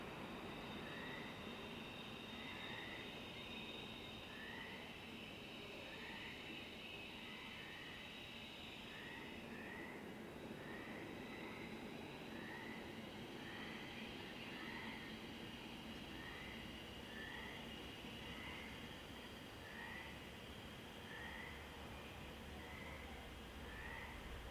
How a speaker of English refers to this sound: A train slides into a tunnel of blackness below. It continues on down the coast.